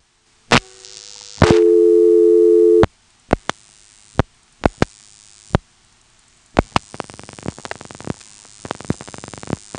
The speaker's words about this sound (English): And now here's a 338 busy number dialed normally.